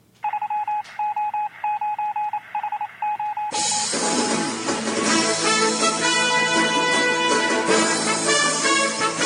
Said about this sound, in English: That's the sound the news makes before it's read. That's coming over the wire, right?